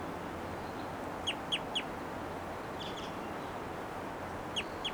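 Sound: bird flight calls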